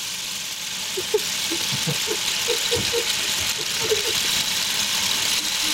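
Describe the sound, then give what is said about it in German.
A rainstick pours out a steady, dense hiss of tiny pattering grains, like a heavy downpour, holding an even loudness throughout, with faint murmuring voices underneath. “Es ist der Platzregen, cool.”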